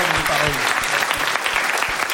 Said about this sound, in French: On peut applaudir Sylvain encore